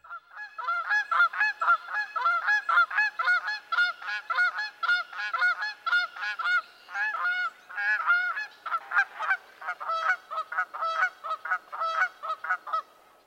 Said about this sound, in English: The clamorous sound of Canada geese is a vocalization often likened to the barking of hounds. At times, both males and females call in a responsive duet. The male gives a loud honk, alternating with the female's higher-pitched version of the same.